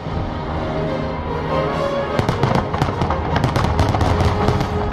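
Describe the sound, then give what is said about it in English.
Fireworks go off on Finnish Independence Day night in December next to a harbor in Finland, a dense, rapid barrage of sharp pops and crackles over a steady rumbling backdrop, the bursts growing thick and continuous after the first couple of seconds. “And I was watching the fireworks, and I felt something.”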